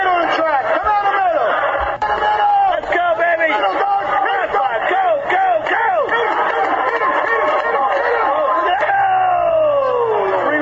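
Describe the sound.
A dense, steady crowd hubbub at the Belmont horse racetrack fills the whole stretch, many overlapping voices chattering and calling out at once, with bursts of louder shouting rising and falling over a constant low rumble.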